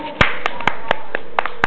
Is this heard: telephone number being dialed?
no